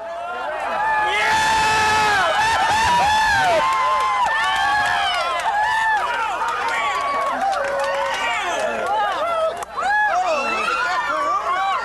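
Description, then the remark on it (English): A crowd erupts in cheering, whooping and excited shouting during totality of a total solar eclipse, many voices overlapping in a loud, sustained roar of high-pitched exclamations with no pause. “And I think that's why, if we have a chance to play back an audio recording taken during totality, it's pretty phenomenal how people react.”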